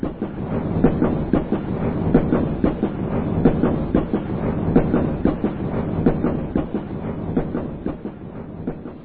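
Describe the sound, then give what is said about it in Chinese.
A train pulling into Shanghai railway station rolls steadily along the rails, its wheels producing a continuous rumble punctuated by regular clickety-clack beats over the track joints. No voices are present. “不久，火车驶进了上海车站。”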